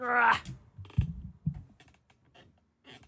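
A chair backrest creaks with a short, squealing, tonal groan, deliberately made by the person sitting in it; something has gone wrong in the broken backrest. A few dull low thumps and faint scattered clicks follow as it shifts, fading into quiet.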